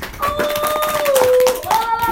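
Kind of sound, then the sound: crowd, audience clapping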